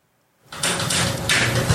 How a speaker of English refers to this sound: She opens the door.